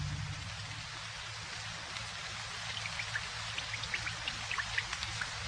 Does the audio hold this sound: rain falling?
yes